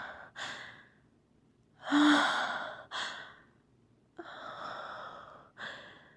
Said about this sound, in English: Listen to my breathing.